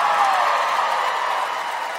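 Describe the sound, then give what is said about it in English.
An audience applauds a joke steadily for about two seconds, a dense, even wash of many hands clapping at constant loudness with no pauses and no voices standing out. “Oh, you're applauding that.”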